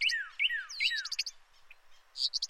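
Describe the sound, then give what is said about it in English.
Bright birdsong fills the air: repeated downward-swooping whistles followed by quick rapid chirp trills, with several birds overlapping and no voices present. A reconstructed composite soundscape of the birds a surveyor counted on their patch in 1998. “To build a composite soundscape that broadly represents what it might have sounded like to be standing next to the surveyor as they were counting the birds on their patch in that year.”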